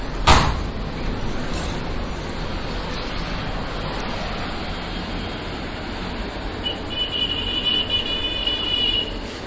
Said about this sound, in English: We will just open the door so that you can hear how loud the ocean is.